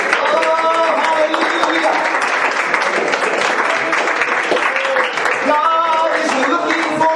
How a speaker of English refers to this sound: Let's clap our hands and shout praise Jesus today.